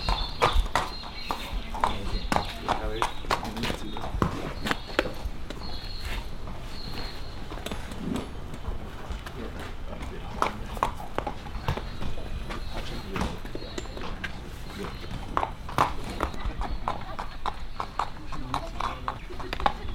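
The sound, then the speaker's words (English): Steady, rhythmic clip-clop of horse hooves on a hard surface, clear, continuing throughout with faint voices and background activity underneath. “He'll ride the lead horse”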